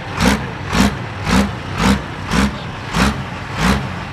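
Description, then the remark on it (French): A very small tractor, almost a lawn-mower tractor, used in garden pulling, runs and chugs loudly in steady rhythmic surges about twice a second, each pulse a rough burst of noise over a low drone. No one speaks. “Là, vous êtes à côté de tout petits tracteurs, c'est-à-dire presque des tracteurs tondeuses, qu'est-ce que c'est?”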